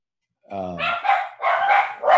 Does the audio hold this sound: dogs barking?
yes